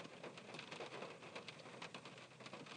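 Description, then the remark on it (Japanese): Hail falling outdoors in strong wind, a dense, steady patter of countless small impacts with sharper ticks scattered throughout, continuous, with no voices. “聞こえる？これ、あられだよ。”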